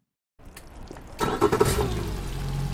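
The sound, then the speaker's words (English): A small boat motor sputters to life after a brief silence, then roars up into a steady, loud rumbling drone for a very short boat ride across the Jones Falls River. No one talks. “The boat ride from one side of the Jones Falls River to the other takes about 22 seconds.”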